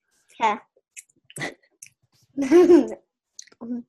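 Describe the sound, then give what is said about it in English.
A child chews popcorn: small wet clicks and crunches between several muffled, voiced mumbles, as if talking with a full mouth. “Chew your popcorn first. Put the food out of your mouth.”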